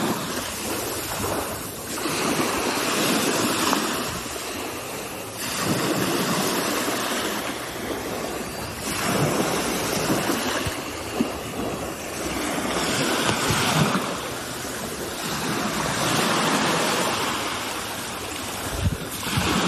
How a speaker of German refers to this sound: So, und als Entschädigung dafür und auch als Beweis dafür, dass ich auch an der Ostsee an euch sehr gedacht habe, gibt's jetzt erstmal etwas Meeresrauschen für die Ohren. Das kommt jetzt.